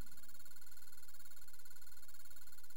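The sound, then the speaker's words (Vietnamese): A telephone rings steadily on the line, as if waiting for someone to pick up; the tone is fairly quiet and continuous, with no voices present. “Một nghiên cứu cho biết là tại Hoa Kỳ, chúng ta mất 6 tháng để chờ đèn xanh, mất gần 2 năm cho việc gọi điện thoại và chờ trả lời.”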